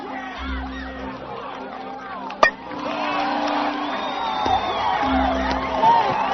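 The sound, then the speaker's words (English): An audience cheering and whooping, a dense wash of many overlapping voices that holds steady and swells slightly, with one sharp bang-like hit partway through. “That's cheering.”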